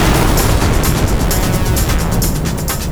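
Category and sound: sound effect, spaceship explosion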